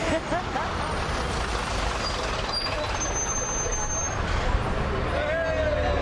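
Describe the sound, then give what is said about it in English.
One of the last open-back London buses, on route 159, rumbles steadily through traffic, its engine droning loud throughout, with a high whine rising near the end and indistinct voices buried in the noise. “We thought we'd have a quick go on the last, almost the last ever open back bus in London.”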